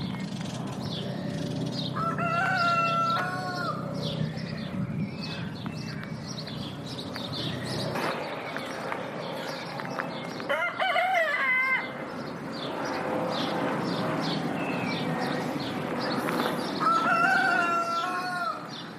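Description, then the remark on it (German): A rooster crows several times on an urban neighbourhood farm in the middle of Zürich, Switzerland, over a steady outdoor backdrop. Its harmonic calls stand out clearly around the middle and end, with chickens clucking, small birds chirping and a plane in the sky. “Vögel, die zwitschern, irgendwo weit weg ein Flugi am Himmel und dann der Gückel.”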